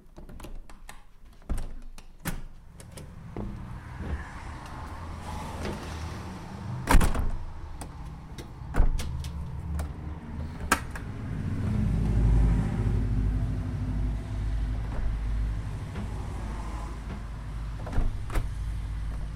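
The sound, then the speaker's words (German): A bus door thumps and slides shut with mechanical clunks, then the bus's heavy engine rumbles up and pulls away on the route from Lauberzon to Sainte-Croix in the Jura, its low drone building steadily while scattered clicks and knocks continue. “Der Weg zurück vom hohen Jura-Rücken führt erst mit dem Bus von Lauberzon nach Sainte-Croix.”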